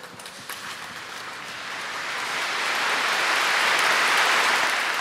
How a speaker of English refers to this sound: I think it's really interesting that the applause starts out kind of faint, but then people kind of testing the water. She's the first person to speak, and this has just gotten very political. And then the applause really grew.